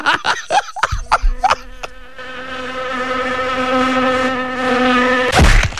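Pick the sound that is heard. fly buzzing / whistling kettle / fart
fly buzzing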